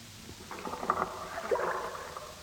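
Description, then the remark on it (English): Rowing-boat oars creak and knock in their oarlocks with a few soft wooden clunks and some watery swishing, moderately quiet and heard alone without any voices, on a deep, steep-walled fjord in the coastal mountains of Greenland. “The sound of their oarlocks, striking the steep walls of the deep fjord, echoing and rebounding over the water, still lingers here in the coastal mountains of Greenland.”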